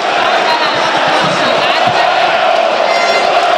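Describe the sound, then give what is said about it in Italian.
A dense, roaring section of Parma Calcio's yellow-and-blue fans at the Gavi Stadium cheers and chants continuously after Parma goes 3-2 up against Atalanta, a loud sustained wall of massed voices with shouts rising out of it throughout. “E sentite lo spicchio di tifosi gialloblu, solo Parma calcio al Gavi Stadium.”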